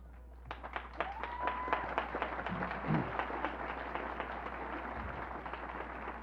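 A crowd applauds a woman as she is introduced, steadily for about six seconds, dense overlapping clapping at an even, fairly loud level, with a brief high whistle near the start.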